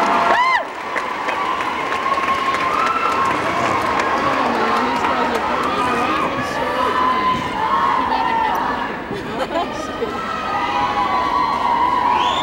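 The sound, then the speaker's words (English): A crowd of young students from Bryn Mawr shouts their school cheer together, loud and sustained, with many overlapping pitches rising and falling for the whole stretch. “Did you make up that cheer? Oh, your school cheer.”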